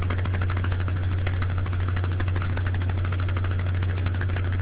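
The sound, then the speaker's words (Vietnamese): A noisy laptop fan hums steadily, with a strong low drone under a whirring, airy rush that stays at an even loudness throughout, with no voices. “Ồ, như vậy thì có lẽ tôi bị nét là do cái máy, cái laptop của chúng tôi nó ồn ào lắm.”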